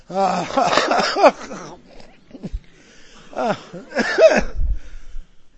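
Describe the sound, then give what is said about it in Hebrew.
A voice imitates the labored, wheezing breathing of a king sitting at a table, barely able to breathe: a long strained rasping gasp, then after a pause two shorter raspy breaths, fairly loud with no other sounds. “המלך יושב ליד השולחן, בקושי יכול לנשום, כל נשימה שלו זה”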